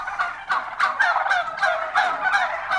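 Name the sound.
turkey gobbling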